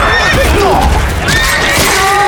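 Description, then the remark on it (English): A horse whinnies loudly, its high wavering call rising and falling over a dense, noisy background of commotion, with a hint of hooves. “That was my horse, you bastard!”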